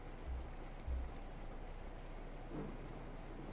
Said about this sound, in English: it's raining hard over here, and I know how much you hate the rain, especially when there's thunder.